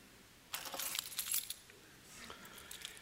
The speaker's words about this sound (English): My keys.